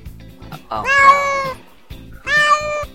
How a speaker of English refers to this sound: Sounds like cats. Meowkies. Why does it have to be the Meowkies?